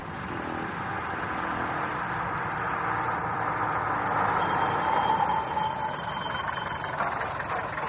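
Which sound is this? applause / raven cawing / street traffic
street traffic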